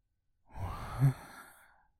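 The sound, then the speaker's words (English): A girl lets out a single long, breathy gasp, fairly quiet, swelling briefly with a faint voiced catch before trailing off into a soft exhale. No one speaks. “She let out a long gasp in response.”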